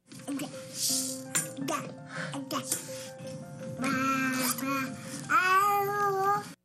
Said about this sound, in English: So babbling is exactly what you think it is. Indiscernible words, jumbled consonants and noises and sounds. It's adorable when babies do it, but it's also a pretty important stage of language development.